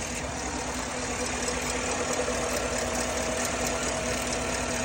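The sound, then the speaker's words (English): An engine idles steadily, a low droning hum with a rapid, rhythmic ticking running through it, like an exhaust leak tapping away without a break; the ticking is more noticeable on the passenger side than the driver's side. “Sounds like exhaust kick, but I don't see any broken bolts or cracks, possible leaks.”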